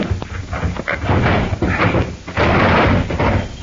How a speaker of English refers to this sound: Locked. Hand me that poker from the fireplace. All right. Thanks. We'll pry the drawer open.